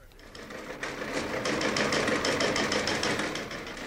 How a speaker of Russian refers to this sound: Я охотно составлю вам компанию. Включаю корабельный телеграф.